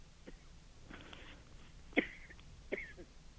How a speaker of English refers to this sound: One moment, excuse me, I begin to cough. Hold on.